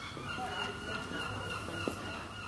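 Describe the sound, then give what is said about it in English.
Seagulls calling in Brighton, their nasal cries overlapping in a steady, low-level chorus with a brief sharper squawk near the end, set against a soft outdoor hum. “And you hear the gulls all the time.”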